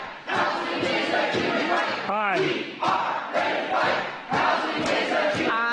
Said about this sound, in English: We have council members trying to vote aye there amid the chants.